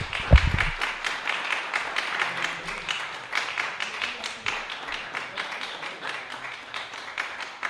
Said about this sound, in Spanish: Y les pido un aplauso gigante, aunque seamos